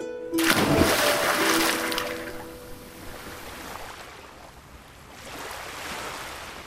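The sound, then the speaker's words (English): A loud splash of a person jumping into the sea near the start, followed by rushing ocean waves that fade, then swell again toward the end. No voices. “Jumped into the water to his death.”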